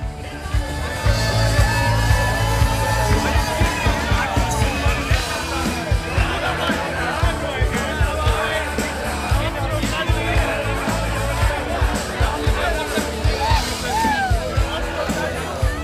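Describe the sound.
A rock concert crowd cheers loudly throughout, a dense mass of shouting and whooping voices over a steady low rumble, with individual yells rising out of the din.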